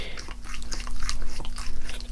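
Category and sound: animal, dog licking a hand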